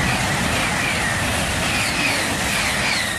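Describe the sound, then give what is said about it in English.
A high-speed train in France or Germany rushes past, a loud, steady roar of wind and rail noise with a thin metallic whine riding on top, no voices. “Recordings of high-speed trains in France and Germany only serve to raise the residents' anxiety.”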